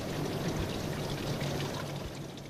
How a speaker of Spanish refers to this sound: El reflejo de las imágenes sobre el cauce tranquilo da un aura misteriosa a este recorrido, cuyo único sonido es el suave correr del río Eure.